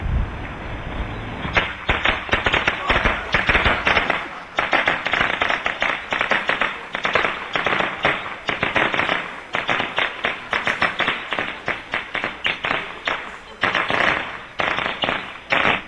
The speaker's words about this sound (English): Those are fireworks tied to his leg.